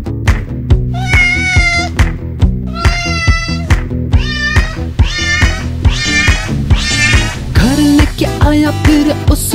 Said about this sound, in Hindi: म्याऊ म्याऊ करके बुलाया मुझे।